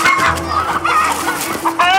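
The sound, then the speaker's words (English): A flock of chickens clucks busily and continuously, their overlapping squawks and chatter filling the short scene with steady, lively commotion. “Forget the chickens.”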